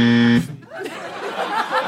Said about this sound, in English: What happened? What a deeper buzz than before. That was such a... We used to have a nice little bzz. Now it's like a fucking thing.